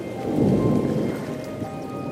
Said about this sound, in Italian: Si era rimesso a piovere.